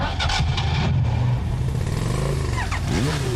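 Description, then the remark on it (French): An engine cranks and catches at the first turn, then revs up with a rising, throaty roar, loud, dipping briefly before climbing again near the end, in an advertisement for Ecobatterie, battery experts in Rochefort and La Rochelle-Périgny. No voices. “Avec Ecobatterie, votre bateau, tondeuse, moto, auto démarre au quart de tour.”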